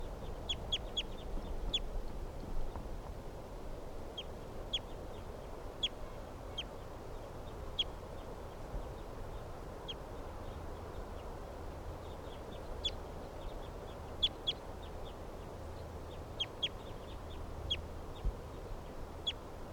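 Several captive birds call back and forth with short, high-pitched chirps and squeaks, coming in irregular bursts over a steady low background rumble, with no talking.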